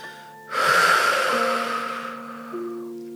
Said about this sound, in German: Wir atmen ganz tief durch die Nase ein und durch den Mund aus. Das kannst du hörbar machen oder nicht. Wir atmen ein, ganz tief in den Brustkorb und in die Flanken ein. Und wir atmen aus.